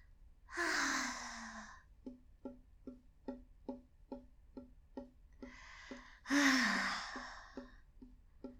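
Two long, breathy sighs, each followed by a steady run of light, evenly spaced taps of fingers on a desk, about three per second, continuing between the sighs with no talking.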